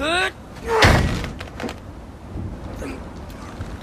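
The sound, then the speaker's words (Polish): A frozen, stuck door is shoved hard, landing one heavy thud followed by a few weaker knocks and scrapes. A short voice sound comes just before the first impact. “Drzwi zamarzły. Może dam radę. Raczej nie.”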